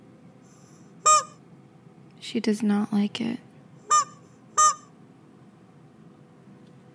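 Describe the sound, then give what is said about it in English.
A squeezed rubber toy chicken, held far away from the microphone, lets out three short, shrill honking squawks, fairly loud, with a person speaking briefly between the first and second squawk. “I'm going to put it far away from the mic because it might be loud. It scared Pepita.”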